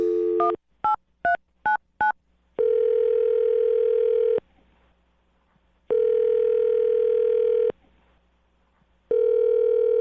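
A rapid string of telephone keypad beeps, then a steady ringback tone buzzing in long, evenly spaced bursts as a phone call goes through. It is loud, with no voices.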